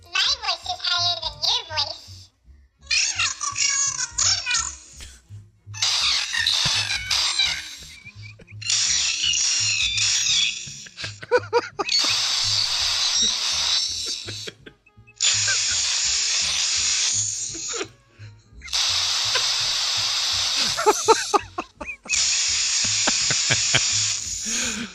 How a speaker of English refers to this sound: At some point, it's just white noise. It's just static, yeah. It's just like this horrible screeching white noise. Anyway. Yeah, we need to clear up that there's two phones side by side.